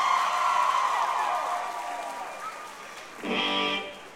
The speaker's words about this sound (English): Thank you. Give yourselves a little round of applause.